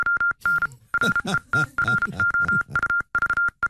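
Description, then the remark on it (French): A steady, high-pitched Morse code tone beeps out a quick string of short dots and longer dashes spelling out a written review, with a voice murmuring faintly underneath the clipped, rhythmic bursts. “Avant-dernière, c'est en morse.”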